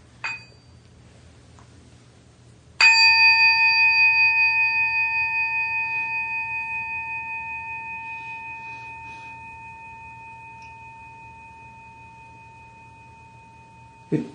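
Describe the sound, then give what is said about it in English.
A ceremonial bell is struck once, loud, its bright shimmering tone ringing on and slowly fading for over ten seconds, with soft taps near the start and end over a low hum. “It's very important for me to know how to communicate with the bells, and it's very important for me to know how to conduct various ceremonies.”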